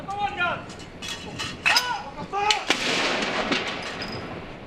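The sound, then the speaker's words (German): Ceremonial cannon fire for a 96-gun salute in Britain, one shot for each year of Queen Elizabeth's life: several sharp, booming blasts spaced a second or so apart, each trailing into a rumbling echo, with indistinct voices in the background. “96 Salutschüsse, einer für jedes Lebensjahr Elisabeths, werden abgefeuert.”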